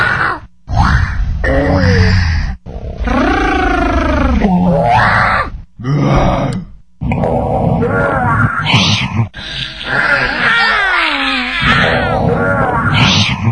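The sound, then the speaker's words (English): A rapid series of children's voices from around the world imitating lion roars, one after another, each a loud, strained growl or shriek with brief silent gaps between them. “These are lion roars from kids around the world.”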